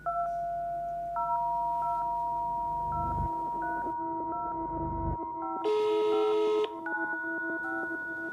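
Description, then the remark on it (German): A sequence of steady dual-tone keypad beeps as a telephone number is dialed to call a job placement agent in Poland, followed by a brief ringing tone on the line, clear with no one speaking. “telefoniert mit einer Arbeitsvermittlerin in Polen.”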